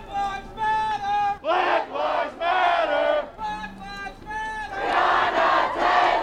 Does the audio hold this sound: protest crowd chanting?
yes